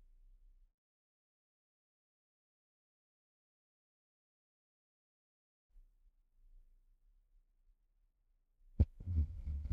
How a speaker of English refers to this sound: I'm now ring the gong 3 times to end the meditation. Please listen to every sound from the gong. Don't open your eyes yet. Just open the eyes as the 3rd sound from the gong fades away.